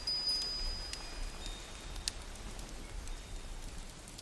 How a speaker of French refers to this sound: Au dehors, une pluie tiède se déverse sur la nature et vous prenez un moment pour recevoir ces gouttes délicates sur votre visage. Écoutez la pluie, elle est douce, régulière, envoûtante.